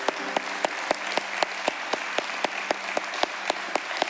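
A crowd applauds steadily throughout for military veterans and their family members, a dense wash of clapping with a few sharper, evenly spaced claps standing out in a regular rhythm.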